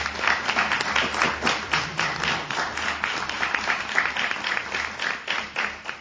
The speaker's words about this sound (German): Und alle beide, finde ich, haben erstmal einen herzlichen Applaus verdient.